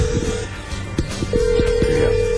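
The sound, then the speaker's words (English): A telephone ringback tone hums in steady bursts from the caller's end of the line, with muffled background noise and a few soft low thumps underneath. “Answer the damn phone.”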